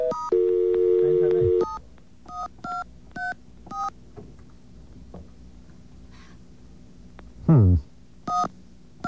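A steady dial tone cuts off, followed by the last five digits of a phone number being dialed on a touch-tone keypad: about five short, loud keypad beeps at an uneven pace, then a brief swooping sound and one more beep.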